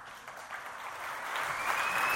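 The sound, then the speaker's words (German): Dense, steady applause from a large crowd of delegates at a Swiss Social Democratic Party (SP) assembly, growing slightly louder, with a sharp high whistle, aimed at the party's new Federal Councillor, cutting through near the end. “Die Pfiffe im Applaus an die Adresse der neuen Bundesrätin zeigten es schon 3 Stunden vor der eigentlichen Parolenfassung.”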